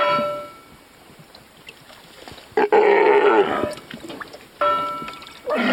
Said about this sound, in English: Steller sea lions like these make a habit of lazing atop the red and white buoys marking the northern entrance to the Wrangell Narrows and Petersburg's waterfront.